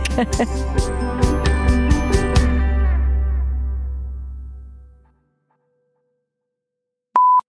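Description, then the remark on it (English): A loud ice machine churns with a heavy low hum and clattering rattles, winding down and fading out after about five seconds, followed by silence and a single short electronic beep. “That would be the loudest ice machine you've ever heard.”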